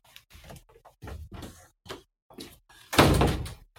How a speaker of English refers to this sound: Let me close this door.